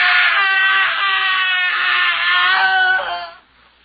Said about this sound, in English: The screaming had ceased a moment before we gained entry.